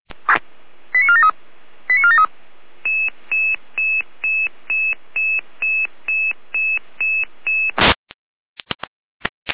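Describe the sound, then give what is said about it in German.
Emergency dispatch radio alerting tones: a dozen short, evenly spaced high beeps over steady radio hiss, after a couple of quick chirps. The sequence ends in a sharp burst of static and scattered clicks. “Letzte Letalfeld mit Alarmierung.”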